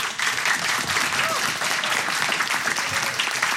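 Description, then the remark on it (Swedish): Steady applause from an audience in Örebro, a dense continuous patter of many hands clapping at an even loudness through the whole stretch, with faint voices mixed underneath. “De är så artiga i Örebro. I Malmö får man inga applåder för något.”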